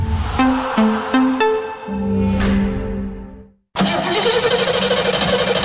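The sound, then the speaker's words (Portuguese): A truck engine cranks in a few quick starter bursts, catches and roars into a loud rumble, cuts out briefly, then runs steadily again. No one speaks. “Vou ali ao Milênio ver se meti isto a andar. O quê? O caminhão?”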